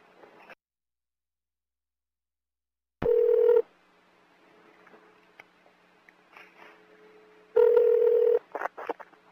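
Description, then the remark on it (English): Telephone keypad tones beep loudly in short electronic bursts as someone dials a cell phone number, one alone and a later cluster of quick presses, separated by stretches of near-silence and faint line hiss. “Well, like I said, I'll just call her cell phone number.”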